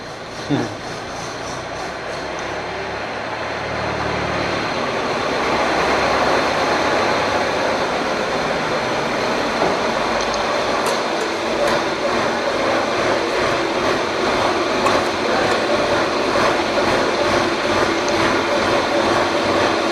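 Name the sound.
tractor passing by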